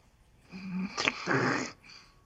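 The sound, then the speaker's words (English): A voice imitates Darth Vader's heavy respirator-mask breathing: two raspy, hissing breaths, one drawn in and one pushed out, with no talking. “Is Darth Vader breathing the equivalent to crickets?”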